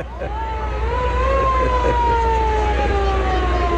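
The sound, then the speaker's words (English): Fire truck horns in a parade blare loudly in long, sustained overlapping blasts that slowly sag in pitch, over a steady low engine rumble, continuous throughout. “Fire trucks are honking.”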